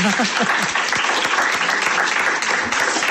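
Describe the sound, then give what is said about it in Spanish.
An audience of young people applauds steadily as a farewell to the mayor, a dense, continuous clatter of many hands clapping at an even loudness throughout, with a faint voice briefly audible at the start. “Damoslle un aplauso, despedida ao alcalde”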